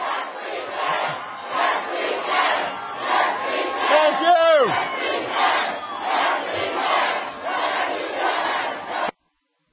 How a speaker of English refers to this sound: So what you're going to hear here is a little sound of the rally. And then after that, you'll hear the president talk about the drive and the change.